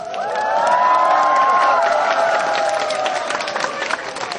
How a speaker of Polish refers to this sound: Przed katedrą tłum wiernych, bliskich. No tak, właśnie tak to wygląda, proszę Państwa.